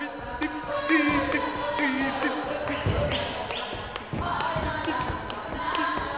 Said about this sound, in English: In this huge studio, light pours in from 10-foot-tall windows. This is just a rehearsal, but the performers dance, in their own parlance, full out, kicking high, stomping passionately, twisting into fierce turns.